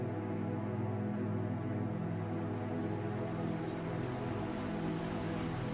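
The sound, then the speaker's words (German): A steady, unbroken autumn rain shower hisses evenly throughout, thick drops falling on streets and roofs, with a low constant rumble beneath it and no voices. “Der Herbst hat einen Regenguss mitgebracht und schenkt unseren Gemütern jetzt eine Abkühlung. Mach es dir gemütlich und genieße diesen Schauer.”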